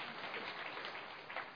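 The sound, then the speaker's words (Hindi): An audience claps steadily and densely to thank a speaker, a continuous wash of many hands applauding at moderate volume with no pauses. “और हम सब तालियों से उसका धन्यवाद करेंगे।”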